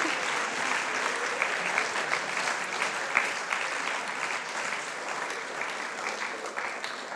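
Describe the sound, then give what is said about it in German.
An audience claps steadily throughout, a dense, sustained patter of many hands at an even loudness with no voices over it. “Ja, gerne einen Applaus.”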